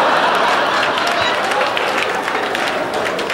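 Sustained applause from a sizable crowd, dense and steady throughout, many hands clapping at once with a loud, continuous wash of sound and no pauses.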